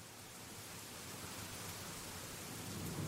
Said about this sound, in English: Then, near the limits of Butler, Missouri, a heavy rain fell with thunder and lightning to match.